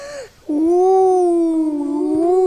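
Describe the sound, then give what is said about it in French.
A voice imitates an owl's hoot: a brief low note, a short pause, then a long, drawn-out, wavering hoot held for about two seconds, fairly loud. “Retourne à ton repère parce que je veux entendre le hibou.”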